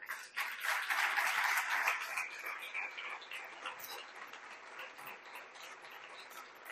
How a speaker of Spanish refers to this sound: Les voy a pedir ahora sí que den una primera ovación taurina de aplausos para ellos.